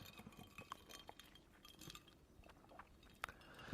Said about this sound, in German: Du möchtest anstoßen. Ja, ich möchte einmal kurz anstoßen. Prost. Prost.